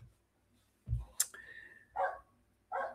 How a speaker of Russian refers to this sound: И вот сейчас собачка лает. Кстати, это редко. Что-то ей вот такое не зашло.